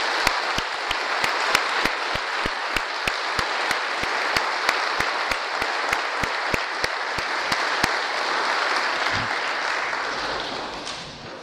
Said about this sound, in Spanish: Además, si puede ponerse de pie los servidores. Un aplauso para ellos.